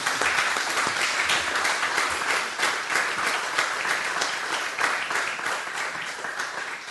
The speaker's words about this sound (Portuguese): Então agora, este é o momento que merece de facto uma salva de palmas, foi o melhor presente.